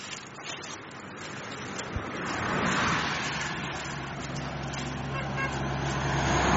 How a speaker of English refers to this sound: Lumber trucks have been zooming by on this road. It's a tiny, narrow little road. Oh, two cars now.